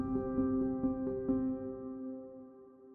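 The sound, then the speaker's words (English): A helicopter carrying Australian SAS troops into the village of Darwan, Afghanistan, at dawn drones steadily with a tonal engine hum and faint rhythmic rotor thumps, then gradually fades as it moves away. No voices. “On September 11, 2012, the Australian SAS arrive in a village called Darwan, flying in by helicopter at dawn.”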